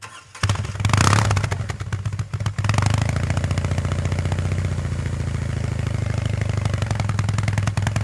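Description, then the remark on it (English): The boxer engine of the hand-built BMW Motorrad Concept R18 motorcycle cranks and fires up at the Concorso with a brief loud rev, then settles into a steady, loping low idle with a rhythmic throb that continues to the end. No one speaks. “And speaking of that beautiful boxer engine sound, I can treat you to a little snippet of how the Concept R18 sounds when it was started up and ticking over at the Concorso.”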